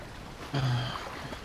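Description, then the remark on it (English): A small rowing boat drops into the sea about 2,000 feet off an island with a short splash and a low hollow thump, followed by a brief wash of water fading out. “And you lower yourself into the sea in your rowing boat.”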